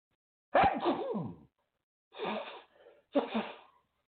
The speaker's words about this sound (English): I got to sneeze, y'all.